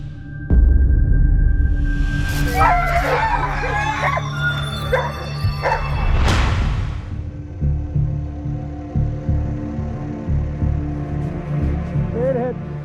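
A pack of sled dogs barks and yips in an excited, overlapping chorus, loudest and densest in the first half before easing into scattered, quieter yelps over a low steady rumble.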